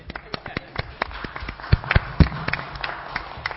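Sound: round of applause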